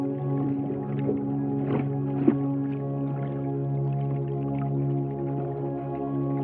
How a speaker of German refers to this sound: Aber Moment mal. Spürst du auch, wie der Boden unter uns sich auf einmal bewegt? Es fühlt sich an, als würden Wellen sanft gegen das Bett schwappen und es so zum Schaukeln bringen.